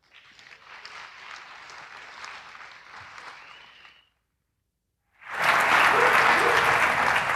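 A crowd at EMF claps steadily for about four seconds, then a brief silence, followed by a louder, fuller burst of applause that continues to the end, welcoming a talk titled The Connected House of Horrors.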